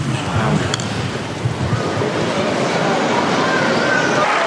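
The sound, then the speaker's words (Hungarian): Thunderous applause from a vast crowd in St. Peter's Square in the Vatican, gathered to hear Pope Francis's teaching: a dense, unbroken roar of clapping that holds loud and steady from start to finish, with a faint murmur of voices mixed in. “Ebből a nagy tapsviharból hallhatják a kedves hallgatók, hogy sokan voltak a Szent Péter téren a Vatikánban, hogy meghallgassák Ferenc pápa tanítását.”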